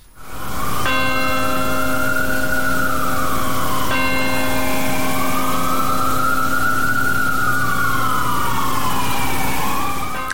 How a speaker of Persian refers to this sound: در 22مین سالگرد حملات 11 سپتامبر بامداد دوشنبه به وقت محلی، ناقوس امید در مقابل کلیسای پل مقدس در نیویورک به صدا درآمد تا خاطره کشته شدگان این حملات گرامی داشته شود.